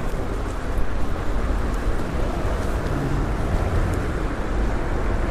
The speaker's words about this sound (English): Wait for that bit of traffic to go forward.